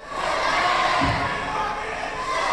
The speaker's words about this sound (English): The city council met for the first time since a police officer shot Michael Brown. People in the crowd chanted Brown's name.